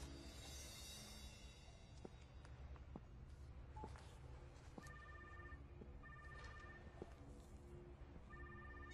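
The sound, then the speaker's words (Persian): A rapid series of telephone redial dialing tones, short electronic beeps in quick bursts, played over a steady background hum with a few clicks, no voices present. “Hate that redial.”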